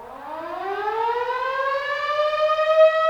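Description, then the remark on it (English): The weekday morning town whistle of St. John, Kansas, the same sound as its severe weather sirens, winds up from a low moan into a loud, steady rising wail, its harmonic tone climbing in pitch over a few seconds with no voices present. “John, Kansas, the early birds are awakened by the rousing sounds of the town whistle. It's the same sound as the severe weather sirens, only the whistle is never as loud or as long.”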